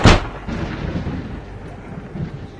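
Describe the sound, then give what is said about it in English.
A sharp crack of thunder as a storm approaches, bursting out, then rolling into a deep, uneven rumble that swells and fades over a couple of seconds, with no rain falling yet, before a downpour. “I think it's going to start pouring any time now.”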